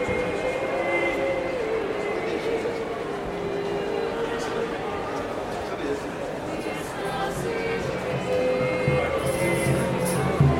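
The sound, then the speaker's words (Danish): A steady murmur of many indistinct voices as history enthusiasts of all ages mill about the large white-painted wooden hall of Øksnehallen in Copenhagen during the Historiske Dage festival, amid stands of media, publishers and museums; a continuous babble with faint clinks and shuffles, no single voice standing out. “Historieinteresserede i alle aldre defilerer rundt i den store hvidmalede træhal, der er fyldt med medier, forlag og museers stande.”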